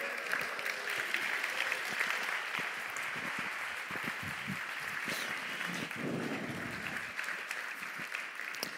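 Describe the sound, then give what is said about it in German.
An audience claps for itself steadily for about nine seconds, a dense, even patter of many hands that holds at the same moderate loudness throughout, with a faint murmur of voices briefly rising midway. “Applaus für euch.”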